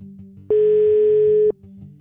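A single steady telephone ringback tone on a police wiretap recording made on 31 January 2014 sounds for about a second, a loud flat electronic beep with sharp start and stop, over a low background hum.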